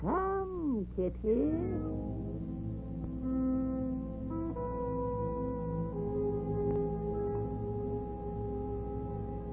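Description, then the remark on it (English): A kitten meows two or three times in quick succession, with high, wavering cries at the start, then fades out beneath a steady, sustained tonal drone that continues to the end. “I never saw a more pitiful kitten.”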